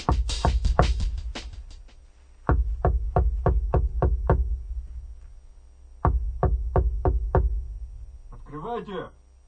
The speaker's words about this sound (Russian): Открой, там кто-то стучит.